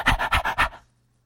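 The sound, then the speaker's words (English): A voice imitates an eager dog panting: four quick, breathy huffs in a steady rhythm, fairly loud, lasting under a second before stopping. “But this dog came bounding to him, and he was so eager, and he's just panting away.”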